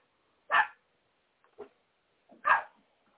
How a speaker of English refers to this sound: The dog's even agreeing, like, yup, that's right. Even the dogs are barking.